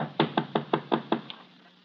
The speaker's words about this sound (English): A short, heavy-set man furtively approaches a home in which all the lights are out. He goes up the front steps quietly. He knocks on the door.